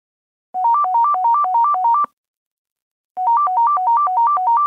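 A newly installed telephone rings twice, each ring a rapid warbling trill alternating between two tones, separated by a short pause. The ringing is loud, with no voices.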